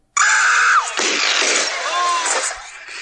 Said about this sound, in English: This time, I'm going to play another cool sound. You must identify this blaster.